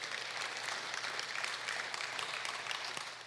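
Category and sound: crowd, audience applauding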